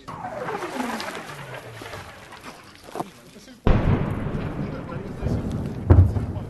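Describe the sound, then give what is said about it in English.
A falling whistle of incoming fire landing close by sweeps downward in pitch for a couple of seconds, followed by a sudden loud blast that leaves a rumbling, crackling roar and another thud. “Well, we've just had the whistling sound of incoming fire so close that we had to take cover.”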